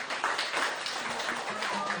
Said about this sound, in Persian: بچه ها تشویقش کنید.